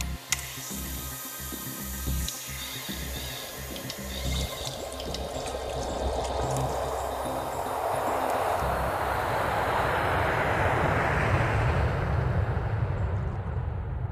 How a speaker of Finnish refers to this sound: Lentokone siinä kohoaa korkeuksiin.